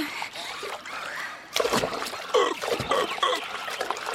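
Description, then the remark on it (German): Water splashes and sloshes from a hind flipper kicking, starting softly and growing louder after a moment, with repeated churning bursts and no talking. “Hast du gesehen, wie Robby mit der Hinterflosse ausschlägt? Ja, jetzt gleitet er durch das Wasser.”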